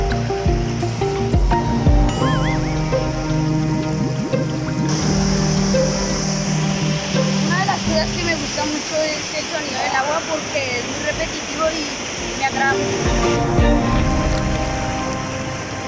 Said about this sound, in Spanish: Es que me gusta mucho este sonido del agua porque es muy repetitivo y me atrapa.